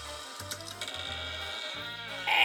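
door lock being opened

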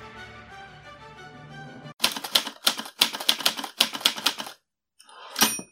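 typewriter typing

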